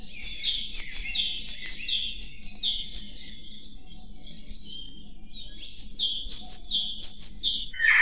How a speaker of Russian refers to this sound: А это пропела синица.